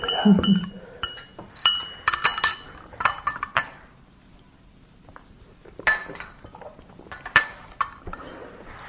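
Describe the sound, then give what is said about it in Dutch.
Glass clinks and clatters in bursts, bright taps of a glass being lifted and set down, with a quiet pause in the middle and no talking. “Eerst even een slokje.”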